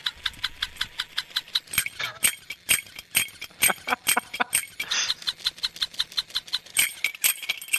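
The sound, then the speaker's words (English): An electronic clapping monkey toy claps away in a fast, steady rhythm of sharp, clattery smacks, with a buzzing mechanical whir running underneath and no voices over it. “And I'm probably scare the guest into wondering why they came on, but an electronic clapping monkey.”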